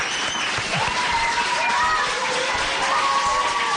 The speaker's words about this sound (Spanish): ¿Le damos un aplauso al alcalde para despedirle? Venga.